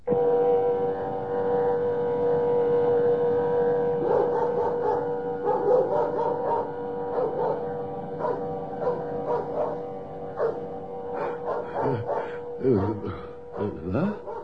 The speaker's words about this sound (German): Also, still, also, hör auf zu bellen, was ist denn?